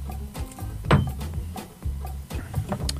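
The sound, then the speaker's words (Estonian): A knife chops parsley on a cutting board in a studio kitchen in a handful of irregular, fairly loud knocks, over a low steady hum with no voices. “Kogu stuudio kõigub, kui ma püüan siin tükkeldada.”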